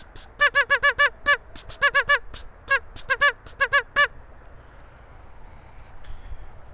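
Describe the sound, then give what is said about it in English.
A duck call blown in a quick series of nasal, harmonic quacks, about fourteen short bursts in irregular clusters over four seconds, loud, then faint background noise. “I need to get some more duck calls. Some duck calls that have a different quacky sound.”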